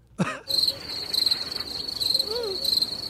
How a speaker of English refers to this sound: It's through Bluetooth, so if there's something going on, who knows? I don't know. There you go. Maybe it was being blocked. I moved it. How's that? Now try the crickets again.